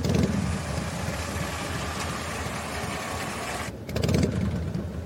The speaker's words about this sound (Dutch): moet glimlachen van het geluid van een motor dat naast hun staat.